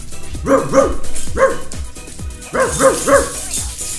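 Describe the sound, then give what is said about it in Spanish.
A dog barks repeatedly in quick bursts, a pair of barks, a single one, then three more, loud with no talking over them. “Ladra, chula.”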